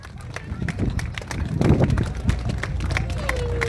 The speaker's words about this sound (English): Oh, it's absolutely fantastic, and it's a massive crowd and also really good weather.